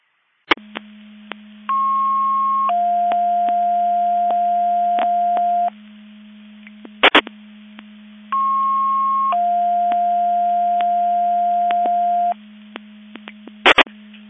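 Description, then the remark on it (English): Two-tone fire dispatch paging alerts from Quadcom sound twice over a radio channel, testing the Division 2 Mutual Aid Box Alarm alerting receivers at 09:55: a higher steady tone about a second long, then a longer lower tone, with static clicks and bursts between the sequences. “Quadcom Mabus Division 2 testing the Division 2 Mutual Aid Box Alarm alerting receivers.”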